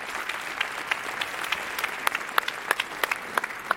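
An audience claps steadily for a score of 5.9, a dense patter of many hands with sharper individual claps popping out, at a moderate, even level throughout with no voices.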